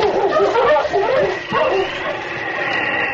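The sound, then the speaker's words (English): A dog named King barks and yips excitedly in quick, overlapping bursts as a sergeant sends him after crooks. The barking is loud, with a steady rushing noise filling the background throughout. “Find them, boy. All right, on, King! On!”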